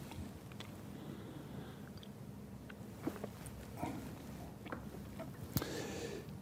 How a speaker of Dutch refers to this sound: We zijn halverwege, dus tijd voor een slokje water.